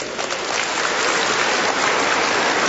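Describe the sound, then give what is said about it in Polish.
A crowd claps steadily in a dense, continuous wash of applause, loud and sustained for the whole stretch with no voices rising above it, applauding visitors from the Good Shepherd parish in Olkusz. “Raz jeszcze pozdrawiamy, brawa dla nich.”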